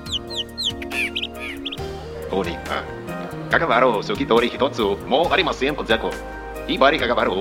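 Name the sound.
human imitating bird calls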